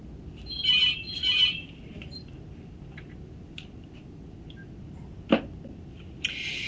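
A telephone rings in two quick, bright trills, then after a pause a third ring begins. Faint room noise lies underneath, with one sharp click partway through and no talking.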